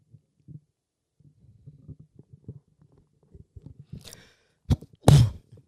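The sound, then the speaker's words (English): Soft, low rumbling and shuffling noises lead up to a short intake, then one sharp, loud sneeze bursts out at the very end. “Bless you.”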